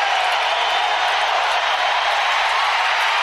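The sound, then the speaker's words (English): A huge hockey crowd roars and cheers without letup in the final seconds as the Predators clinch their first trip to the Western Conference Final, a loud, dense wall of voices with no single shout or word standing out, holding steady for the whole few seconds. “We'll let the crowd tell you what's happening here.”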